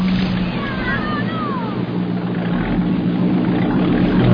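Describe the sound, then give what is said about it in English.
A boat engine drones steadily over rushing water, loud, holding an even, continuous hum for the whole stretch with a few faint high squeals early on. “I love this boat. It was a beauty, wasn't it?”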